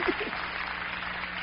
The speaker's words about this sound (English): Come on, clap your hands. That's the truth.